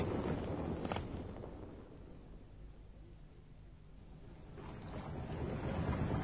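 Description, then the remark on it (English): A boat's auxiliary engine runs steadily at sea, a low continuous rumble mixed with rushing wind and water, swelling louder at the start and end. “I've got the auxiliary engine going.”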